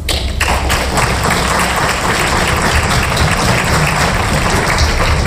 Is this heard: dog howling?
no